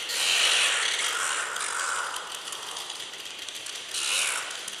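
Oilbird calls: a harsh, rasping chorus of screeches that runs continuously, loudest at the start, easing in the middle, then swelling again near the end. No one speaks.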